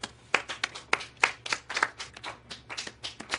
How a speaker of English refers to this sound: I actually think he's done a great job. Let's all start clapping.